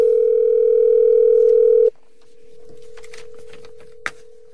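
A loud, steady telephone dial tone drones for about two seconds, then drops to a softer hum while faint clicks and taps of dialing patter over it, ending with one sharper click.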